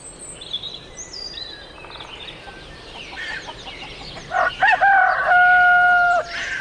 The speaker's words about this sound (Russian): Кричал петух: «Я жить хочу!» В округе всех собак тревожа.